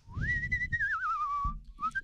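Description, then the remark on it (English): A person whistles through pursed lips, a clear tone rising then gliding slowly downward, breaking off briefly and resuming with a short higher note, with low rumbling underneath. “See, but you're all pursing your lips when you I can do that. Do it. Well, that's how you whistle.”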